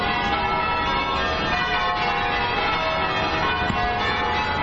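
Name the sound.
church bells pealing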